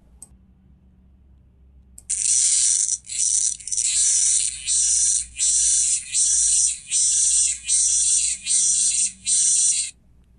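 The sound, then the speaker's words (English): A locust gives a loud, raspy buzzing in about nine rhythmic pulses, each roughly half a second long with short gaps between, alone over a faint low hum. “Listeners, that is the raspy sound of a locust.”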